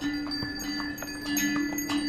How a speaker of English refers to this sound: Donkey trains. I remember the recurring sound of bells from the donkey trains carrying various loads along the trail.